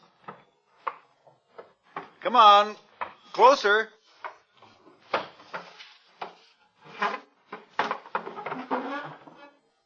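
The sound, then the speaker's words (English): A wooden chair is shoved and bumped up to a door in short knocking scrapes while a person talks over and between the clattering movements. “bring your chair to the door. Oh, he's doing it.”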